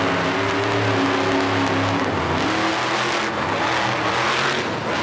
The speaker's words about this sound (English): With a set of rear wheels that can churn independently of the front wheels, her monster truck can make super tight churns, which comes in handy if you're doing tricks or spinning out donuts.